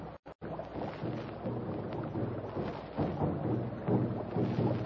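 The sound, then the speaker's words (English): Talking drums beaten by tribesmen in the jungle roll on steadily in a dense, low rumbling wash, with deep pitched tones pulsing in short recurring bursts throughout. No voices are heard. “Talking drums again. They are probably telling their tribesmen of our escape.”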